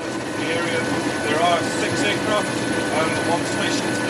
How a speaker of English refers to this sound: This was a New Zealand Air Force surveillance plane heading out, one of more than 300 such flights.